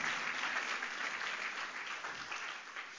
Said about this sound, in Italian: Facciamo un forte applauso a Gesù, il Signore. Alleluia.